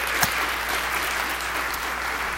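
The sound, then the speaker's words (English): An audience in church applauding to welcome a member back home: a steady, dense wash of many hands clapping at an even loudness throughout, with no voices standing out above it. “So would you give her a hand as she comes this morning?”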